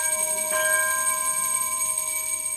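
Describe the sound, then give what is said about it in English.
A ceremonial bell, rung by a breast cancer patient to celebrate the opening of the Helmsley Cancer Center, rings out with a sharp strike and then sustains a bright, steady ringing tone that slowly fades, with several clear overtones hanging in the air and no voices present. “rang a bell that will be used by future patients completing treatment.”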